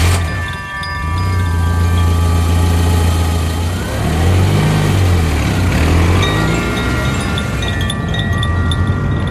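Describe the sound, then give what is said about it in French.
A car, loaded with skis and a sled, starts off for the mountains, its engine rumbling loudly, pitch rising and falling as it revs and pulls away, steady throughout with no voices. “Vite, on charge la voiture, il ne faut surtout pas oublier les skis et la luge. C'est parti.”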